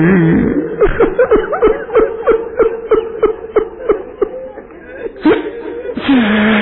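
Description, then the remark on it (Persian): A person cries in a rapid series of shaky, voiced sobs and whimpers, about a dozen catching breaths in a steady rhythm, then a few longer gasping wails at the end. “اینقدر گریه نکن عزیزم، این عشقهای تو وقتی رو صورت زر و زیر میشه قلب من رو آتش میزنه”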